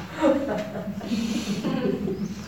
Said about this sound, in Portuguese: Presta atenção na respiração desse sujeito. Se ele não estiver respirando pela barriguinha, a coisa não está boa.